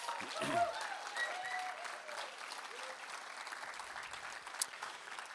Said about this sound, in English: Go ahead, loud clapping and cheering.